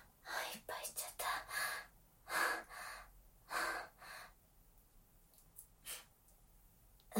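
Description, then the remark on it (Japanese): A run of harsh, breathy coughs and gasps, coming in irregular bursts with heavy breathing between them, then trailing off into quieter breaths. “最後の方咳き込んじゃって、なんか興奮してたんだね。”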